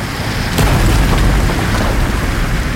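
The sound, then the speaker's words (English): A loud, steady roar of sea water surging through the maze of tunnels of a mine, deep and rumbling with a hissing wash on top and a sharp booming surge early on. No voices. “And then the more terrifying sound as the sea swept through the maze of tunnels.”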